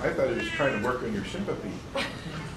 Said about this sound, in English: I hear you. Is that him, mate? That's the cat. The cat. Aww.